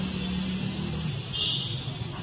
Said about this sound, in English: there are noise, all this noise. This is just considered normal. Traffic noise.